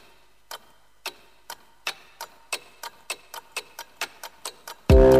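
A clock ticks steadily, about a dozen crisp ticks at an even pace, before a loud burst of music abruptly takes over at the very end.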